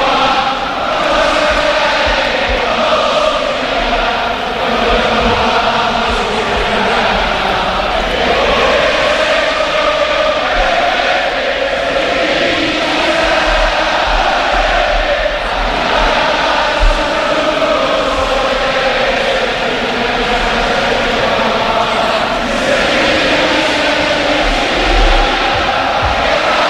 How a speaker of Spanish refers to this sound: suena el himno del Sevilla. Ahí está el estadio cantando a capela el himno del Sevilla. Escuchamos el Sánchez Pizjuán.